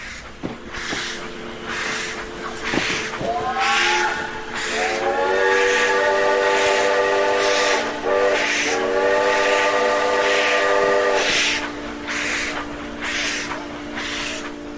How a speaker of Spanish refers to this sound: Y la atropelló un tren de carga.